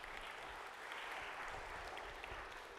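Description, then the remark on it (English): A crowd at City Church applauds steadily, a dense wash of many hands clapping at an even, sustained level with no voices standing out, lasting the whole stretch, as a church planter from New Creation Pres in Chester is invited up. “So would you give him a round of applause as we invite him up?”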